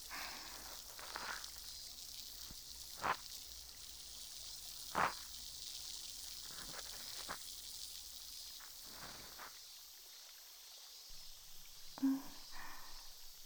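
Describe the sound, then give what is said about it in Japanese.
A faint, steady fizzing hiss from the tip of a soaked cotton swab, dotted with scattered soft crackles and pops, quiet, with no one speaking. “パチがちょっと弱くなっちゃったかな。”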